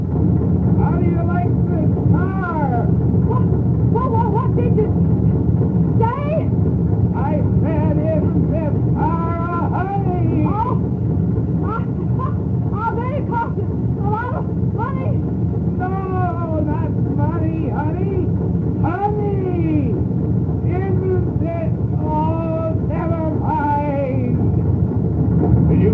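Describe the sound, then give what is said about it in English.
The engine of an early gasoline buggy, a horseless carriage of the 1890s or early 1900s, rumbles loudly and steadily, rattling throughout, while people speak over the din in raised voices. “Conversation was next to impossible, but in spite of all the noise, the gasoline buggy kept coming.”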